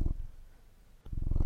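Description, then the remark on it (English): A steady purr with a rapid low rumbling pulse, loud at the start, briefly dropping to a quieter hum, then swelling back strongly. “Are you purring? I've never fucking heard you do that before.”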